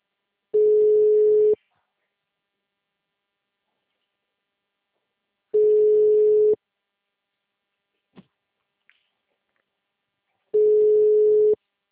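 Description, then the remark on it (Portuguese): A steady, low telephone ringing tone of a call going to voicemail sounds three times, each about a second long with several seconds of silence between, plus a couple of faint clicks in one gap. “meu telefone não tá fazendo chamada.”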